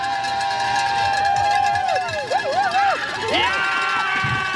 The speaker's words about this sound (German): Wir hatten alle Facetten dabei heute, also normalen Jubel oder aber auch Ballermann, bisschen Glockenmann auch da. Und vor allem eine ganze Menge Ekstase bei den deutschen Zuschauern.